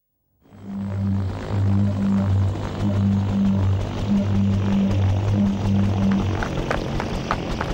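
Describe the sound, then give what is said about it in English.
A helicopter flies with a loud, steady whir, its low pulsing rotor chop running continuously under a broad engine roar. “Stop the helicopter!”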